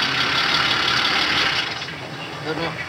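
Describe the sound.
A car engine idles with a steady, rough mid-range rumble that stays constant, with some talking mixed in over the hum; a driver's car has stopped at a gas station.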